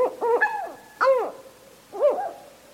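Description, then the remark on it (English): Northern hawk owl calling alone: three loud, raspy, arching screeches with rich harmonics, the first longer and wavering, each dropping in pitch at the end, separated by short pauses. “Northern hawk owls hunt by sight in broad daylight.”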